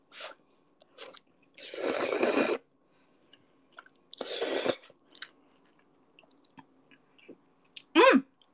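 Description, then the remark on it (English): Eating of overflowing instant noodles, with pepper and seasoning powder left unmixed on top: two long, noisy slurps separated by soft, wet chewing and small mouth clicks, ending with a brief voiced hum. “So I'm kind of just slurping the the bubuk.”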